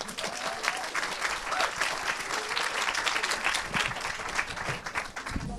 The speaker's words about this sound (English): A big round of applause.